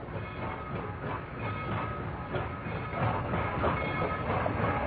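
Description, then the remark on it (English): A train rumbles steadily along the tracks, its wheels clattering in a continuous, fairly loud roar with a dense low rumble and metallic rattling throughout. “Martin, the new brakeman on that hellbound train.”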